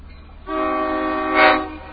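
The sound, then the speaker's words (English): A slow-moving diesel train, going about 3 miles an hour as it crosses the tracks at a crossing, rolls by right in front of the listener. Its steady droning, tonal hum starts abruptly, then swells louder for a moment before settling again. No one speaks. “Oh, the train's coming right in front of us. You might be able to hear the sound of the diesel there.”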